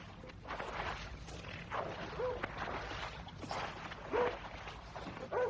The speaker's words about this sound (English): And I can hear someone rowing.